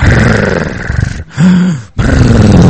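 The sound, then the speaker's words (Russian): A voice imitates the loud snoring of Brahmananda, a big, heavy man sleeping on the floor of a hut beside Prabhupada: three harsh, rasping, low-pitched breaths, the middle one shorter and more tonal, separated by brief pauses. “Брамананда страшно храпит.”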